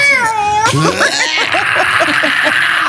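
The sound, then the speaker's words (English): A voice mimics a strained, yowling dying cat with a long wavering wail, then breaks into a string of short choppy yelps and breathy laughter, loud. “It sounded like a dying cat.”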